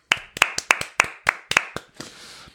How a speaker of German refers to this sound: Wir können auch mal für euch klatschen.